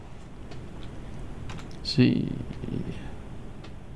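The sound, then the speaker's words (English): Irregular clicks of typing on a computer keyboard while looking up a stock ticker symbol, fairly quiet, with a brief louder cluster of keystrokes midway over a low, steady background murmur. “I couldn't find the X on the keyboard, believe it or not.”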